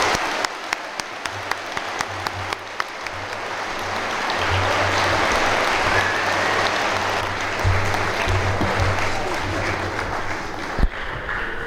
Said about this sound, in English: And I want to thank them very much for coming here and being civil and continuing this 40-year tradition. Let's give them a nice round of applause.